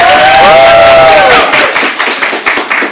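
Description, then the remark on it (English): A crowd claps and cheers loudly to vote for a review of the film Pacific Rim, with shrill whistles rising and falling over dense applause that then thins out into scattered, uneven claps. “If you would like to hear us review Pacific Rim, clap now.”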